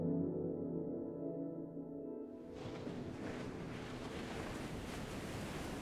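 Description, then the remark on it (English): A low, steady droning hum gives way after a couple of seconds to the broad, continuous rush of ocean waves breaking on a beach below a castle, reached by a terrace and steps, fairly loud, with no voices. “Well, I noticed a terrace and steps that lead down to the ocean.”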